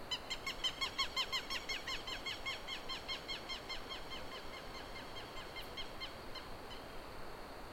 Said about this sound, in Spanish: Y bueno, pues hay como una cama pareja de bichos y unos esporádicos ahí, todavía no hay muchas aves cantando.